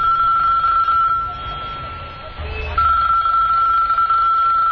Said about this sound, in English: Just then, Bilal's phone rings.